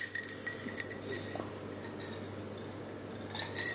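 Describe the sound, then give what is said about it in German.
Drinking glasses clink together in a toast, a handful of light, thin taps scattered irregularly over a few seconds, fairly quiet against a low steady hum with no one talking. “Klang aber auch nicht elegant. Wir haben es nur so gemacht, oder? Ja, auch nicht besser. Sind aber die falschen Gläser, wir haben uns mal.”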